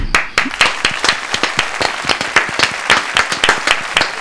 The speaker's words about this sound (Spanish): Un aplauso para él, por favor.